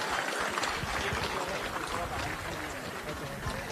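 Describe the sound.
A crowd applauds steadily at a start ramp, a dense wash of many hands clapping at once, holding an even loudness for several seconds with voices mixed into the noise.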